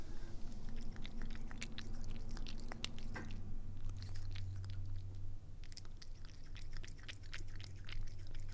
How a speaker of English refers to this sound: And that's the kitty drinking the kitty water. It's delicious.